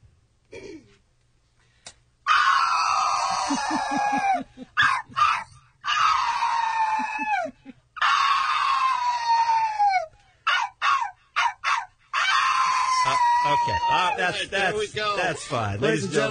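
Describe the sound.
A woman, performing her talent in the Miss Double D pageant on the Kevin and Bean Show, imitates a dog's howl in a series of long, loud, wavering cries that slide downward in pitch, broken by short gaps and breaths, ending in rapid yelping.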